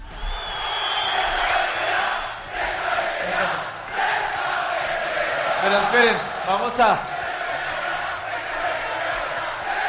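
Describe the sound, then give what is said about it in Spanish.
At Radamel Falcao's presentation in Vallecas, a crowd shouts and jeers "Presa, vete ya" in a steady, dense roar while Falcao talks over the noise, with a couple of loud, rising individual yells breaking through near the end. “Gritos de presa, vete ya, mientras hablaba Radamel Falcao.”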